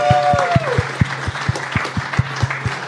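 A burst of audience applause for the person who kept score in a quiz game, with steady, rhythmic thumps running underneath and a brief gliding tone at the start, fairly loud throughout.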